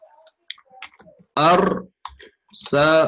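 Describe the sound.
Soft, irregular clicks on a computer keyboard tap away for about a second as an answer is typed, then give way to two loud bursts of voice.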